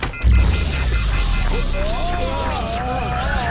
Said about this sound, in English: Here, any door? I'll open whatever door is close by. Any door? Okay, here. I'll open my closet door.